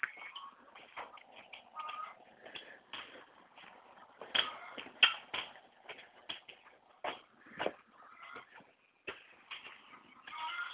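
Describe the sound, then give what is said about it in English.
A 30-year-old retired draft horse's hooves shuffle and scuff in a barn, with irregular soft thuds and scrapes on the ground, some steps louder than others, and no voices. “draft, retired draft horse, 30-year-old draft horse.”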